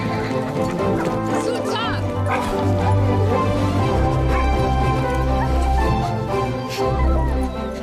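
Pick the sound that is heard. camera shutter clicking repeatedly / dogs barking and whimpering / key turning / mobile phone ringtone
dogs barking and whimpering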